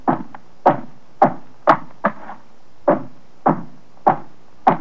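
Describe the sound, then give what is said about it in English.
A series of about nine firm, loud knocks on a cabin door, evenly paced at roughly two per second, with nothing else in the background. “And suddenly, there's a knock on the door.”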